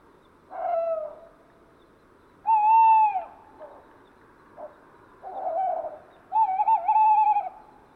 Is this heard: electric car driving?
no